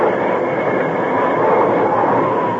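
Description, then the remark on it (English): A locomotive braking on the tracks, heard as a loud, steady grinding rumble of rail noise that fills the whole stretch without pause or voices. “When they were a few hundred yards away, he once more slammed on the brake.”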